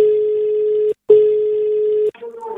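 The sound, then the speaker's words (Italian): A telephone line rings for a call to a radio show, with two long, steady electronic tones separated by a brief pause, heard clearly, before a voice starts speaking over the line. “Andiamo subito al telefono su Radio Toscana”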